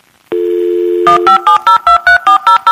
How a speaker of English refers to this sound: And we used to access the internet through this thing called a dial-up connection. Those of you old enough, remember that? We would dial up. We would you know, pick up the phone and dial.